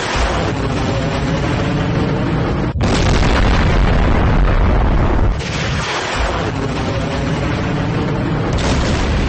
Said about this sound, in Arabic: صواريخ كروز قدر 110 وقدر 380 وقدير، والصواريخ الباليستية 303 انطلقت من عمق الأراضي الإيرانية بشكل متزامن ودمرت بدقة عالية جميع الأهداف المحددة مسبقا في بحر عمان.